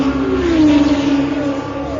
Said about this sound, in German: Ein aufheulendes Auto, das auf Kartätschen zu laufen scheint